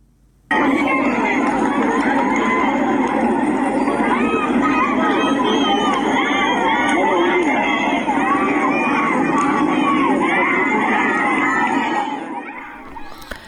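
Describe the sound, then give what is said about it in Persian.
A large crowd at the 40th-day memorial for Hamed Molaei chants anti-government slogans in the street in Dashti, Hormozgan, Iran, on Monday evening: many raised voices in loud, sustained unison blending into a dense roar that starts abruptly and carries on steadily for about twelve seconds before fading. “بر اساس تصاویر منتشر شده در شبکه‌های اجتماعی، گروهی از شرکت کنندگان در مراسم 40 حامد مولایی در شهر دشتی هرمزگان شامگاه دوشنبه با حضور در خیابان شعارهای ضد حکومتی سر دادند.”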